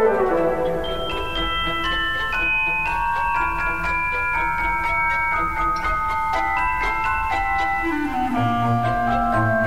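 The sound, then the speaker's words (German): A celesta, a glockenspiel with a keyboard, plays the Dance of the Sugar Plum Fairy from the ballet The Nutcracker: bright, chiming bell-like notes tracing a descending melody over soft, sustained low accompaniment, at a steady moderate level with no voices. “Die Celesta, ein Glockenspiel mit Klaviatur, erklingt im Tanz der Zuckerfee.”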